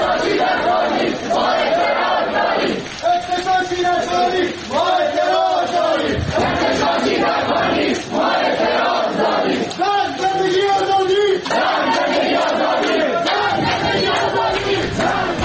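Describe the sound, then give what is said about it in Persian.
A crowd of university students in Ahvaz chants a protest slogan together in loud, rhythmic unison, the phrases repeating in steady bursts with brief gaps between them. “یا این شعار زیبا و پرمعنای بچه های دانشگاه اهواز که به خوبی قلب یک سناریوی امنیتی نظام رو هدف گرفته.”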